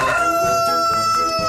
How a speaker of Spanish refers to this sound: ¡El gallo!